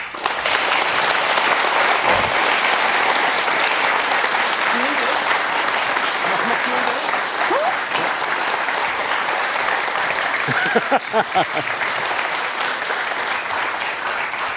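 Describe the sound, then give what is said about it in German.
Sustained, dense applause from an audience after a talk, steady and loud for the whole stretch, with a few faint voices and whistles rising through the clapping. “So, da müssen wir schon abwarten, bis der Applaus zu Ende ist.”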